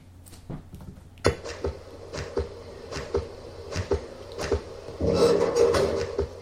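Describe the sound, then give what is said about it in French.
A door sound effect from the video game Arcanum: a sharp knock opens a series of evenly spaced creaking clunks, ending in a longer grinding swell as the door moves, clear with no talking. “Le coup de la porte, là.”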